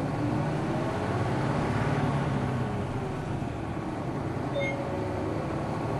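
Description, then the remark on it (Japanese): A bus bound for Ōbora Midori Danchi, next stop Tatsutabashi, drives along with its engine rumbling steadily, a deep continuous drone with road noise filling the background and no voices, holding an even loudness throughout. “毎度ご乗車ありがとうございます。この車は最低経験大洞緑団地行きです。次は立田橋でございます。”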